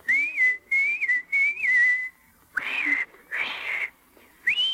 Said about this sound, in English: And anytime you need me, you know, just whistle like this.